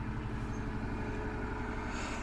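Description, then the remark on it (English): A steady, low diesel engine drone rumbles continuously as a tiny push boat, a tugboat only about 8 feet long, motors past, with dense low-frequency throb and a faint hum above it; no one speaks. “It's a tiny little push boat. It's basically a tugboat that basically pushes the big.”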